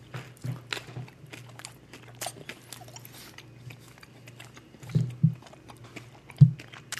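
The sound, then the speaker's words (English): Soft chewing of a small piece of cheddar cheese, with irregular wet mouth sounds and a few louder smacks near the end, heard alone over a low steady hum. “So I'm going to eat a smaller piece of cheddar cheese this time so you don't have to hear me muttering.”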